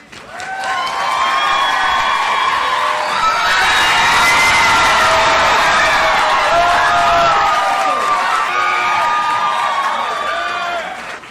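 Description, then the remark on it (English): An audience at the Free Library cheers and applauds loudly for about eleven seconds, welcoming the author of the memoir Waxing On, The Karate Kid and Me, with overlapping whoops and high shouts rising over steady clapping before it slowly tapers off. “Please join me in welcoming our guest to the Free Library.”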